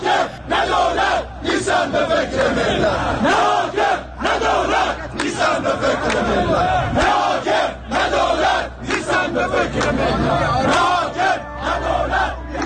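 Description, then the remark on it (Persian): A large crowd at the Quds Day rally in Ahvaz, Iran, chants slogans in loud, rhythmic unison, voices rising and falling in repeated bursts over a steady roar of many people, with no pause across the whole stretch. “ملت چی میگن؟ ملت این میگن.”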